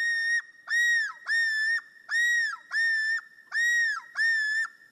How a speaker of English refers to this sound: When winter ends, common loons return to their breeding territories. Once back to those shining northern lakes, the males will again launch their yodel.